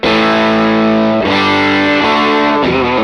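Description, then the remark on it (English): A distorted electric guitar from a single-coil Strat plays loud, sustained chords with a gritty, buzzing edge, changing chord about three times over a few seconds, with no talking. “Yeah, it's a pretty aggressive Strat.”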